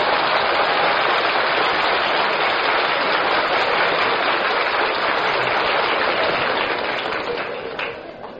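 Steady spring rain, an April shower, pours down in a dense, even hiss of countless drops, loud and unbroken, easing slightly in the final second.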